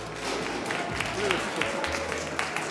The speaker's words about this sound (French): on peut tous vous applaudir.